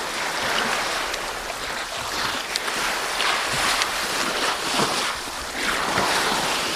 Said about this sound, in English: I did a few quick checks and realised, no, that's exactly what I'm hearing. And it was the sound of the ocean. There was a bit of a swell, and it was the sound of the ocean lapping against the side of this iceberg.